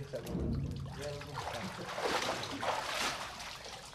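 Water sloshes and splashes in a warm baptismal pool during a church baptism, with continuous moving-water sounds, swelling in a few louder surges over several seconds.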